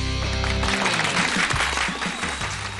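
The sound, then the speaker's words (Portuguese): A short musical tone fades out as a crowd bursts into dense, steady applause at the opening of the Convocadas program on Rádio Globo, many hands clapping at once and fairly loud, continuing to the end with no talking. “Opa, adorei esses aplausos, hein?”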